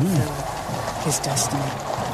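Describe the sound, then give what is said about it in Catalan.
A crowd of spectators fills the air with a steady, rushing murmur, individual voices rising briefly above the general noise, with a couple of brighter bursts of cheering or hissing near the middle. “Ara passarà pel costat. Ara se sent la gent.”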